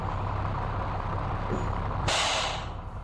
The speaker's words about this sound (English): Finally, the bus is here.